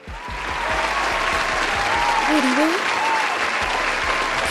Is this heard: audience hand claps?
yes